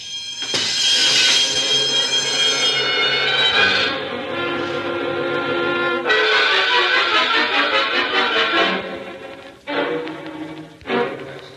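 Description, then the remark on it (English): A loud alarm bell, set off when someone stepped on it, rings continuously, a harsh metallic clangor that shifts in tone a few times and breaks off briefly near the end before resuming. No one speaks. “Aren't you the cute when you stepped on the alarm?”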